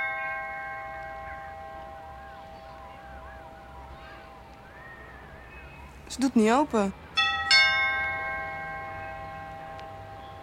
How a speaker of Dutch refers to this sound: Laten we dan nog eens aanbellen.